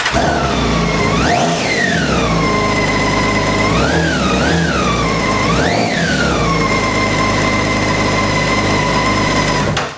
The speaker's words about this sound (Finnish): Olisi kiva kuulla, miltä tuo Bemari kuulostaa. Joo, pannaanpa tämä käyntiin. Tässä on aika hyvät äänet, kun tässä on moottoripyöräksi melko harvinainen kuussilinterinen moottori, niin se tuo sen oman soundinsa siihen.